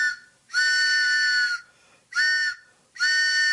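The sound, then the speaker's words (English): A train whistle sounds three loud blasts: a long one, a shorter one, then another long one, each a steady, bright, multi-toned wail with brief quiet gaps between them. “Oh, it's the WBAI pitching train coming in for a special.”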